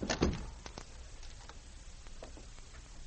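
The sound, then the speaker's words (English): A door thuds shut, followed by a scattering of small, sharp clicks and rattles as it is locked, all fairly quiet with no one speaking. “Shut the door and lock it.”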